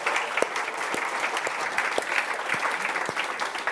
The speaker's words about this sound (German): Coole Musik, das Kompliment. Das Musikteam noch jedes Mal. Ich glaube, die verdienen einen Applaus.